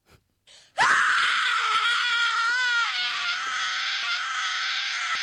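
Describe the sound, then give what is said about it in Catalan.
A piercing, high-pitched scream like a young girl's erupts after a brief breathy intake and holds loud and unbroken for several seconds, with no talking, standing for a six-year-old girl's scream on seeing TV coverage of the Indian Ocean tsunami of 26 December 2004. “Més o menys va ser el seu crit, aquest, eh?”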